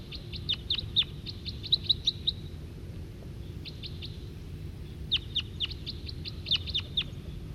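A wild male siskin gives bursts of thin, high-pitched call notes in quick rapid series, pausing between bouts, over a steady low background rumble.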